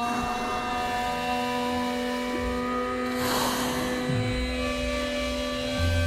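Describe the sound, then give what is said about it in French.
A blue whale surfaces and blows, a single rushing, breathy burst of air and water midway through as it fills its lungs with air, set against a steady, layered low drone that runs the whole time. “Oui, au début, ça ressemble à une baleine bleue. Elle est en surface et le bruit de l'eau qu'on entend, c'est qu'elle a fait surface et après elle remplit l'air de ses poumons.”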